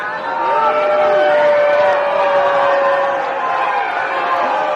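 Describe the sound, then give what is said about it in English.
A crowd boos Donald Trump as he enters a public school polling place in Manhattan, New York City, where he voted, a dense wash of many voices with sustained low, droning jeers rising and holding for nearly five seconds without a break. “That's a crowd booing Donald Trump as he entered that public school in Manhattan.”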